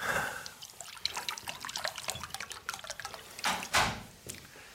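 Water is poured into a glass for a guest in a box at the Munich arena, a quick run of splashy, bubbling trickles that swells into a brief fuller gush near the end, with no one speaking.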